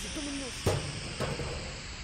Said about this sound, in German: Mein Kopf, Leute, mein Kopf. Oh, shit. Das war der Tischtennisschläger. Du hast den Schläger an den Kopf gekriegt.